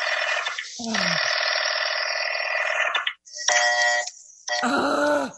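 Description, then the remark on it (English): A loud, harsh buzzing telephone busy signal from an operator ringing a Murray Hill number sounds in long tones broken by short gaps, steady and insistent, with a brief low groan-like sound near the start. “The line is busy.”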